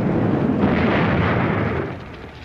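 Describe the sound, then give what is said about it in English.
A loud, dense roaring rush fills the whole clip as fire flares up in a burning building that firefighters are spraying, sustained and powerful before easing slightly toward the end. No voices are heard. “But the flames grow higher.”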